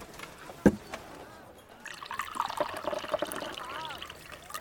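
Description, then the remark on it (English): A single clink, then liquid poured steadily into a cup, the gurgling tone rising as the vessel fills over a few seconds. “Then bring me the cup. Shall I pour out for him?”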